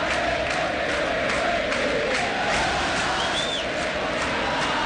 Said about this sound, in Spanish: Este gol que escuchamos de Edwin Cetré, escuchan a la gente de Central, ¿no?